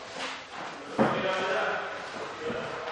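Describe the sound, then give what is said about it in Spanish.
A door shuts with one sharp, fairly loud thud about a second in, followed by a lingering room rumble and faint background voices. “cierra la puerta.”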